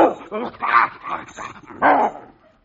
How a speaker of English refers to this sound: By the way, this is Herman, my St. Bernard, right here.